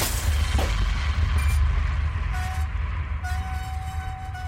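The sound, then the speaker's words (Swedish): A roller coaster train rumbles heavily along its high metal looping track, a steady, low roar, and a thin metallic squeal cuts in toward the end as it brakes and the train suddenly stops just before going up into the loop. “Vagn efter vagn försvinner snart upp i den höga metallbågen och passagerarna befinner sig upp och ner, fasthållna av sina säkerhetsbyglar.”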